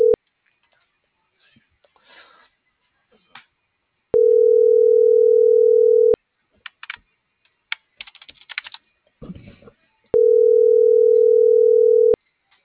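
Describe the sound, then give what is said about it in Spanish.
A phone line's ringing tone sounds twice before the call goes to voicemail, each ring a steady two-second hum, with quiet keyboard typing and clicking in the gaps between rings. “Buzón de voz.”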